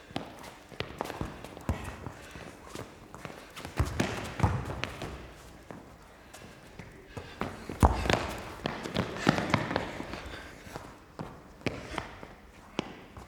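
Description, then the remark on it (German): A football is kicked and dribbled again and again, with sharp irregular thuds mixed with quick scuffing footsteps on the ground, steady throughout. “Den Ball schießen, treten, kicken.”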